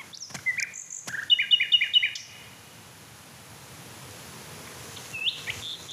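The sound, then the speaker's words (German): A male bird sings a bright, high phrase of rapid repeated chirps, then falls quiet before a shorter call near the end, over a faint outdoor hiss. “Mich würde echt interessieren, ob er andere Männchen noch singen hört, die ich gerade nicht höre.”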